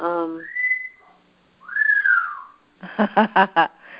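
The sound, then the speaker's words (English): A bird whistles its song: a steady held note, then a bright swooping note that rises and falls, followed by a quick run of four clipped, buzzy chirps. “The bird confirms that.”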